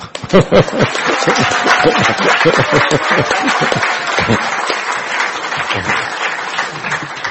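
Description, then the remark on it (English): Steady, loud applause from an audience after a talk on the Ramayana: a dense, continuous crackle of many hands clapping, sustained at an even level for several seconds, with a few stray voices mixed in. “Anyhow, time for the applause.”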